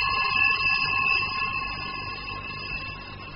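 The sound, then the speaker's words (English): A fire alarm, set off by a small fire after leak water flooded through floorboards and short-circuited wires, sounds continuously, a steady, shrill electronic tone that holds at one pitch without pausing, loud and alone with no voices. “Water flooded through the floorboards, short-circuited some wires, caused a small fire, and set off the alarm.”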